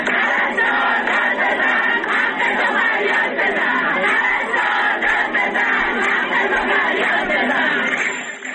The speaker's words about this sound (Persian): در ویدیوهایی که از این تجمع در شبکه‌های اجتماعی منتشر شده دیده می شود که این پرستاران به نشانه اعتراض به وضعیت معیشتی خود سفره خالی به دست گرفته و فریاد می زنند پرستار داد بزن، حقتو فریاد بزن و یا وعده و وعید کافیه، سفره ما خالیه.